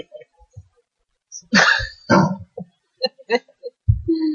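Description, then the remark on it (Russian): A female dog barks in several sharp, loud bursts with short pauses between them and a few quieter yips, squabbling with other dogs. “Да, она выясняет отношения с другими собаками.”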